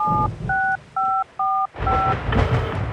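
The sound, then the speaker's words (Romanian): A phone number being dialed to call mother during a power cut: five clear keypad tones beep in a steady, evenly spaced rhythm over a low rumbling background noise that grows louder toward the end. “Vreau să sun pe mama. Dar unde o fi telefonul?”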